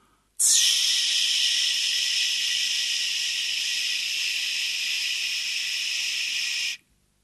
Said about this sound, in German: Eddie Dickens raus aus dem Bett und der Zylinder des wahnsinnigen Onkels Jack, der den Gashahn streift. Was ist denn das für ein zischendes Geräusch? Meint ihr, das ist wichtig? Glaubt ihr, das gehört zur Handlung?